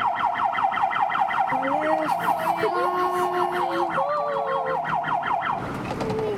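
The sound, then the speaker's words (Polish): A fire truck siren wails loudly and continuously as the truck drives out of the fire station gate onto the street, its rapid repeating yelp pattern layered with a second steady tone, fading slightly near the end. “Takie sygnały.”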